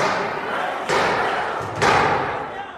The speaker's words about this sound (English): And then there was a sound I will never forget, the sound of pounding on the door like a battering.